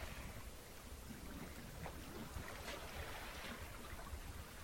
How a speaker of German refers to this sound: Und ich überlasse dich jetzt den Klängen der Wellen, dem Rauschen des Meeres.